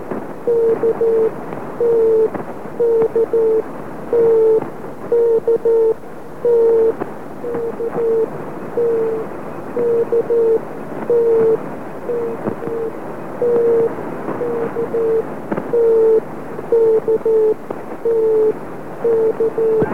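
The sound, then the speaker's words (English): A steady Morse code radio transmission: short and long beeps of a single mid-pitched tone tap out in uneven groups over a constant hiss of static, running the whole time with no voices. “I immediately realised that this was the Morse code transmission that Sven had written about earlier”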